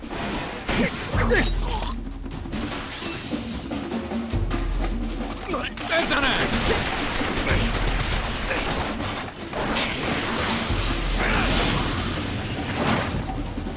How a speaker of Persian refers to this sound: تیراندازی بود از اون بره. صدای چند تا شلیک تیر بود. به نظرت اتفاقی افتاده؟